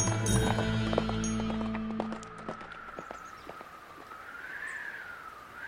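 Horse hooves clip-clop in a steady trot as Mulan rides away on her horse, sharp knocks that grow fainter as the horse moves off, over a sustained musical tone and low background hum.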